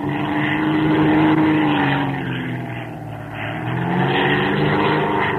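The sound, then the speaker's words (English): A propeller fighter plane in a dogfight roars steadily as it climbs into an Immelmann turn to get on another plane's tail, its engine drone rising and falling slightly in pitch with a rough, buzzing harmonic texture and no voices. “We'll pull an immerman, and as he flies past, try to get on his tail.”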